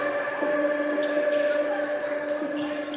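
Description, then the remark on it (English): A basketball bounces a few times on a court, with sharp, irregular thuds heard over a steady, loud wash of arena noise and humming crowd sound. “Squeaking shoes and whistles and fans cheering and the ball bouncing and, you know, the coaches shouting.”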